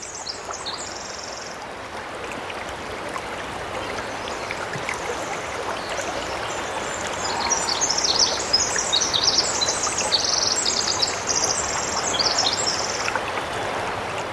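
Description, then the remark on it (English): A steady rush of flowing stream water fills a rainforest on Chichagof Island, 65 miles northwest of Juneau in the Tongass National Forest, with bright, high bird calls chirping and trilling above it, loudest in the later half. “This is a little rainforest.”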